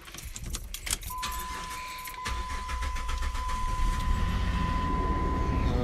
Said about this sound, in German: Also, ich versuche mein Auto anzumachen, obwohl ich habe kein Benzin.